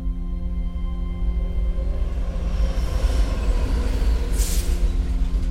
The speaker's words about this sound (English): sometimes when if you're at an underground near a railway station, you can feel trains before you can see them.